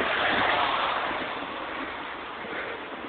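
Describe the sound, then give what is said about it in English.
A steady, soft hiss of light rain falling outdoors on a street on a slightly windy day, continuous, with a slight rushing swell at the start and no voices. “Oh, it is raining a little bit.”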